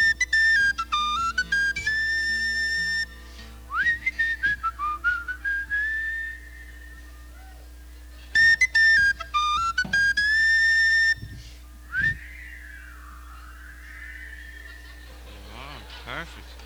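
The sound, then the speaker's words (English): An audience whistles a simple melody together along with a performer's song, in a few bright, sustained phrases separated by short pauses, with a steady low hum underneath. “I'd like you all to help me in this and do a little bit of whistling.”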